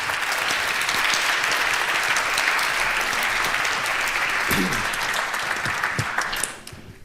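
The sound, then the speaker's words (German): Warm applause from an audience welcoming two speakers to a talk, a dense sustained clapping at steady loudness for several seconds before quickly tapering off near the end. “Gebt doch mal eine Runde warmen Applaus nochmal für die beiden und viel Spaß.”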